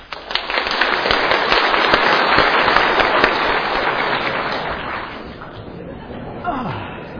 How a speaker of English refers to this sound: Now some clapping.